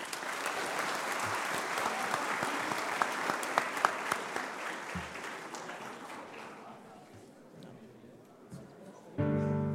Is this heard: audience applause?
yes